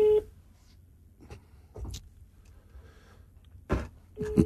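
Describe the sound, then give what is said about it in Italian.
A faint, steady telephone ringback tone comes and goes at the start and end, with scattered clicks and handling noises in between from a phone being dialed. No one speaks. “Ragazzi, è bassissimo lo squillo.”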